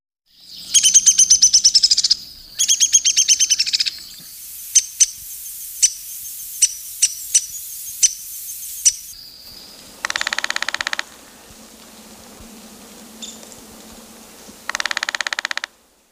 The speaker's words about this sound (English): Downy woodpecker.